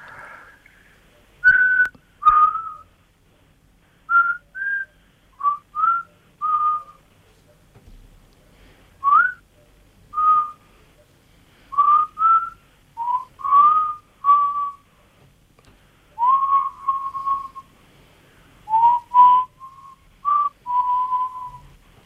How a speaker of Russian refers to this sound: В этом свисте какая-то такая свобода есть, чувствуется.